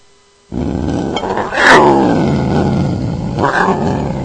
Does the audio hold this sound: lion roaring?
yes